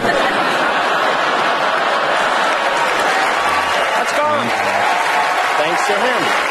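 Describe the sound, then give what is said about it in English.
Loud, sustained applause from a large audience at the Oscars ceremony, following a joke by host Kimmel, fills the whole stretch, a dense continuous roar of clapping with scattered laughter and a few voices rising through it. “Massive thundering applause.”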